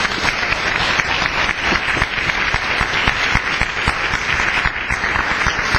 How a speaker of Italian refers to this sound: chiedo a tutti di fare un applauso di bentornato.